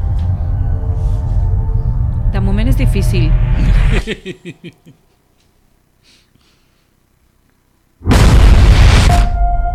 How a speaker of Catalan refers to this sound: Hi ha moltes explosions, no? Sí, masses.